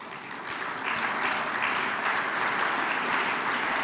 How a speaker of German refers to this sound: Das war jetzt noch kein breiter Applaus, aber wir müssen ja weiterarbeiten.